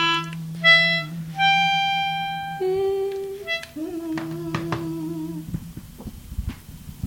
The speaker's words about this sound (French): Il faut savoir qu'on a un petit mélodica qui nous accompagne,